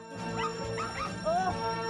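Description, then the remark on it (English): Three Yorkshire Terriers, walked on a street by an old lady, yap and whimper in quick, high-pitched bursts, several barks overlapping over a couple of seconds, with her voice nattering at a passerby underneath and steady street background. “On a street, an old lady walking three Yorkshire Terriers natters at a passerby”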